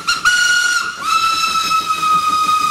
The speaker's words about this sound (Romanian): Altul, vreau un tren mai vechi, un tren obosit și pitoresc. Tren tras de locomotivă cu aburi. Un regat pentru un tren.